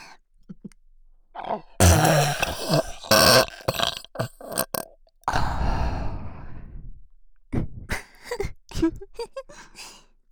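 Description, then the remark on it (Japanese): A loud, deliberate, drawn-out burp rumbles for a couple of seconds, preceded by several shorter guttural bursts and followed by a few breathy sighs and gasps. “よー、特大のエロいゲップするから楽しみにしててね。”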